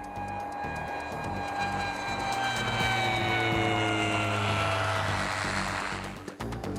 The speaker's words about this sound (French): La tour de contrôle accepte de faire atterrir l'avion sanitaire en priorité.